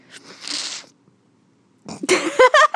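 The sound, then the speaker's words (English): A breathy, hissing sniff lasting under a second, followed by a short silence and then a burst of voiced, pitch-shifting vocal sounds. “Did you just sniff?”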